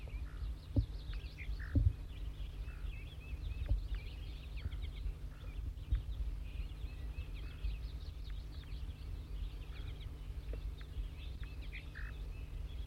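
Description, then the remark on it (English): A perched brown wild bird, a female or juvenile, in Servsbury, repeats short, high zezer notes in a steady, irregular series over a constant low rumble, with no one talking. “That 4-3 is getting zezer notes.”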